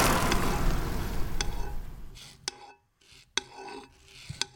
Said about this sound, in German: Das, was ihr da gehört, das ist ein wunderbares Fondue. Ja, genau.